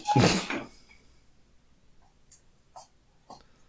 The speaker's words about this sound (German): Ich glaube persönlich, ich mache mal ganz kurz die Tür zu, weil meine Frau läuft, glaube ich, Zehenspitzen mittlerweile.